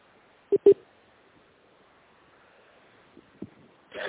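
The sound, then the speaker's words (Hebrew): Two quick electronic beeps from a phone keypad as someone dials another phone call, followed after a pause by a couple of fainter, shorter tones and a brief burst of noise. No talking. “אני עושה עוד טלפון, נשמע מה הוא אומר.”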